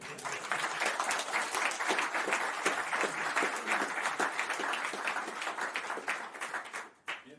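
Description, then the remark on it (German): An audience applauds at the end of a talk, before the questions: steady applause of many hands clapping at once, a dense crackling wash that holds for about seven seconds before tapering off, with a faint murmur of voices underneath. “Das ist so in die Fragen übergegangen, aber wir machen erstmal einen Applaus.”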